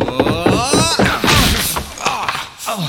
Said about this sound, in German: Ich habe eine Idee. Wir werfen uns zu dritt gegen die Tür. Gute Idee. Okay, auf drei. Eins, zwei, drei. Los!